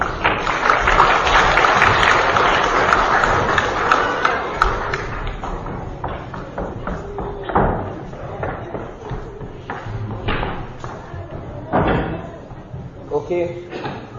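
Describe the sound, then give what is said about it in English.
An audience claps for a group of boys and girls, a dense, loud burst of applause that gradually thins out into scattered individual claps and faint background murmurs over about fourteen seconds. “Can we give them a wee clap?”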